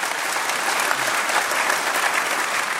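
Steady, dense applause from a sizable audience fills the whole stretch, a continuous wash of many hands clapping at fairly even loudness with no voices standing out.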